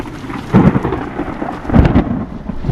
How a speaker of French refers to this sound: En circulant au sein du nuage, les particules d'eau vont frotter l'une contre l'autre et c'est ce qui va créer l'énergie électrique et les coups de tonnerre.